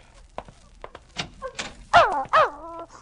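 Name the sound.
dog whimpering and barking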